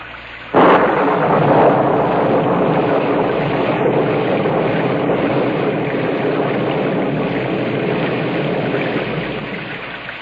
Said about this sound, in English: Gus, can we get level on the rain, please?